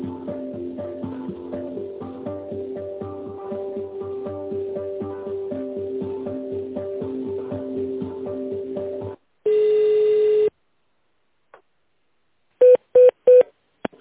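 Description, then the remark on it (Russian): Rhythmic tonal music plays for several seconds on a company's automated phone line, then a sustained electronic tone sounds, followed by a quick run of four short, evenly spaced touch-tone beeps as an internal extension number is keyed in. “Пожалуйста, наберите внутренний номер абонента или дождитесь ответа оператора.”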